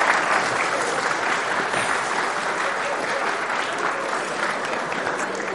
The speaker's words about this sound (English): A round of applause.